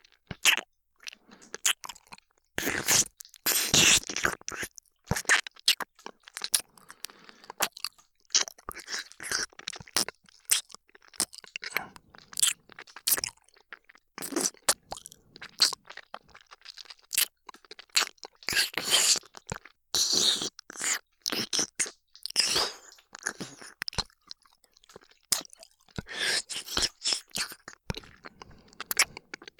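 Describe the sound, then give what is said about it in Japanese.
Wet licking and mouth noises: moist smacks, clicks and slurps in irregular, clustered bursts over half a minute, soft but crisp, with no speech. “ほら、また舐めちゃいますよ。 気持ちいい水音、いっぱいあげます。”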